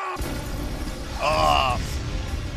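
A cartoonish explosion effect: a dense, low rumbling blast that swells briefly in the middle, carrying a high whistling tone before settling back into a steady roar.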